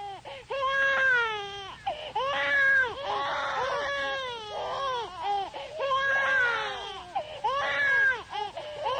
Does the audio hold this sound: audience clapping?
no